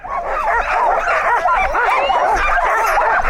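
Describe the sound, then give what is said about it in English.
A team of ten sled dogs, harnessed to a sled before pulling tourists around a loop, yips, barks and whines all at once in a loud, nonstop overlapping chorus of high, excited cries, with no one talking. “The dogs are almost screaming in anticipation.”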